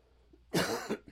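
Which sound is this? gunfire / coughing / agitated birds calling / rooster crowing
coughing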